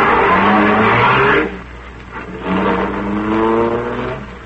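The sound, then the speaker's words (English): A car engine revs loudly in two rising bursts as its motor is choked, dropping to a rough, sputtering idle between them as if it is choking, with no voices. “Choke the motor, lady. Well, it sounds like it's choking now.”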